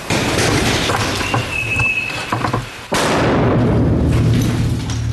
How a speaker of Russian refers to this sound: И вот в старинных стенах фабрики зазвучала трескотня страйкбольных автоматов и взрывы гранат.